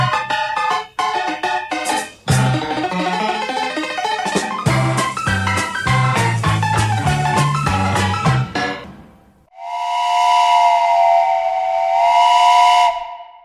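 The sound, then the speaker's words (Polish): A steam passenger train's busy, rhythmic rumble builds for several seconds as it pulls out of Koluszki station, then a long, loud steam whistle blows steadily near the end. No one speaks. “Ze stacji Koluszki rusza pociąg osobowy.”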